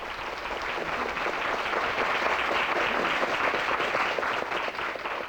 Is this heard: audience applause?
yes